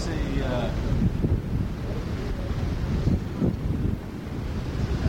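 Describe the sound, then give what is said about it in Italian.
Steady roar of sea waves washing ashore, mixed with gusty wind buffeting the microphone, loud throughout. Faint voices may murmur underneath. “Ed eccoci davanti al mare, si sente odore di mare e rumori di mare.”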